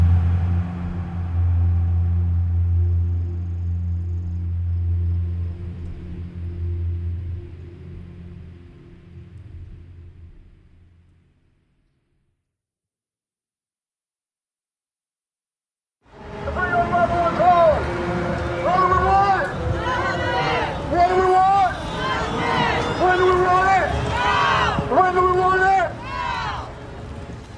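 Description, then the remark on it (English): A steady low rumble fades into a few seconds of silence, then a loud crowd of many voices rises, calling and chanting together as an MMIP movement rally of people dressed in red and black moves down a street in Northern California. “This is a rally for the MMIP movement in Northern California. A crowd of people walk down the street dressed in red and black, the colors of the MMIP movement.”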